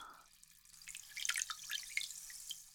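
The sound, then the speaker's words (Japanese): Hot bath water being swirled by hand, a soft run of splashing and fizzy, bubbling trickles with small drips rising and falling over a couple of seconds, fairly quiet and with no voices. “お湯を手で混ぜると、シュワシュワってして、気持ちいいですよね。”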